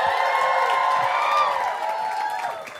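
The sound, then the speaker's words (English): An audience at a live comedy show claps and cheers for itself loudly and steadily, a dense wash of applause with whoops and shouts, tapering slightly toward the end. “Clap it up for yourselves one more time.”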